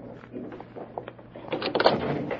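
An apartment door is opened after the buzzer sounds: a couple of sharp latch clicks, then a louder rattling, scraping swing lasting about half a second, with no voices.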